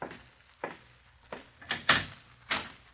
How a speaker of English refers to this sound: Oh, here he is now, I think. Open the door, will you,